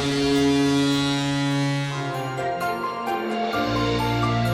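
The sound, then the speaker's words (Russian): A loud, sustained horn-like siren blares with strong steady harmonic tones, shifting pitch slightly partway through, signaling the start of a blind hockey match (adaptive hockey for visually impaired players). No one speaks. “Звучит сирена, и матч начинается.”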